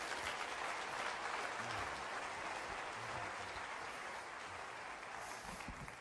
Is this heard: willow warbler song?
no